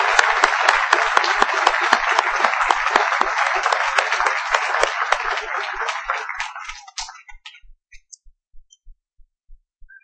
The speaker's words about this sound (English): Would you join me, please, in applauding the congregation here at Vandalia? Thank you.